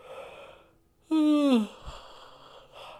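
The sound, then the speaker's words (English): A single loud yawn, a drawn-out voiced sound sliding downward in pitch for about half a second, with faint breathy noise before and after. “Sorry. I hope you're not yawning.”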